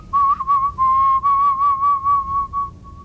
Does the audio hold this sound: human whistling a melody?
yes